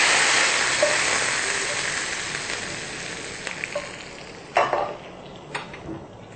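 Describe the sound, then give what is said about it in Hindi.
A loud, steady sizzle of hot oil tempering (tadka) with browned onions and cumin poured over cooked tamarind chana dal, hissing broadly and fading slightly over time, with a few clinks and small bursts of spattering near the end. No one speaks. “अब आप देखेंगे कि प्याज़ों ने अपना रंग बदल दिया है तो अब हम ये इस दाल के ऊपर तड़का लगाएंगे।”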